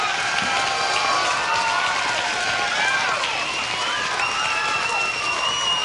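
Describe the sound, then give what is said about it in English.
A large crowd applauds a live band steadily, dense clapping mixed with whoops and cheers, sustained at an even, loud level throughout with some voices calling out over it. “a fantastic round of applause”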